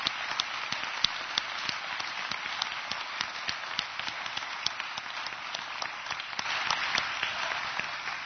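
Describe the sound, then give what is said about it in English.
An audience applauds steadily to recognize standing armed forces veterans, many hands clapping in a dense, continuous patter with a few sharper claps standing out, even in loudness throughout. “And, of course, this momentary recognition and a little applause can hardly pay.”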